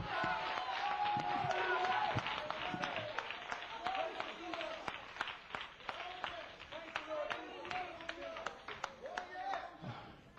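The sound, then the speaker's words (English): An audience gives God a hand clap, clapping in a dense, uneven burst for about ten seconds, with voices calling out and singing over the clapping, loudest at the start and then fluctuating. “Give God a hand clap tonight.”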